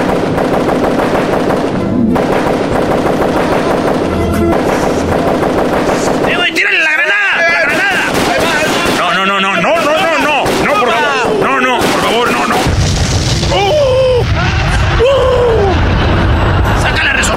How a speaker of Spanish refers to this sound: Oye, muy violento, otra vez balazos.